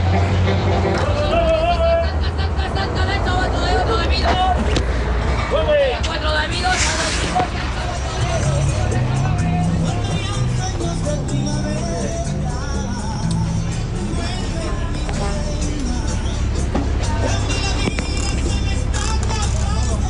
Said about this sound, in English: For these journeys, we're taking the chicken bus. If you're unfamiliar with the concept of the chicken bus, they are basically retired yellow school buses from the United States. They get driven south to Guatemala